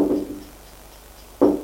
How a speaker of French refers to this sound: On frappe à la porte.